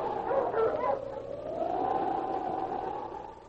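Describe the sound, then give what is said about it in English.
King, Sergeant Preston's wonder dog, gives a few quick barks, then breaks into one long, wavering howl that carries loudly for several seconds, with no voices present. “Now back to the days of the gold rush, when Sergeant Preston and his wonder dog King battled through storm and snow to preserve law and order as they met the Challenge of the Yukon.”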